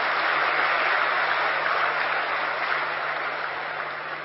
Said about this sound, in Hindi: भाई जी का जोरदार तालियों से हम सभी स्वागत करेंगे।